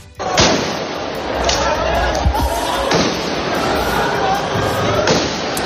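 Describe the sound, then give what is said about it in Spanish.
Several sharp firecracker bangs, thrown by radicals in the front rows of a street protest at night, go off at irregular intervals over a loud, dense crowd roar, with shouting voices throughout. “hasta las 10 de la noche, cuando los radicales ocuparon las primeras filas y comenzaron a lanzar petardos y a zarandear las vallas de separación.”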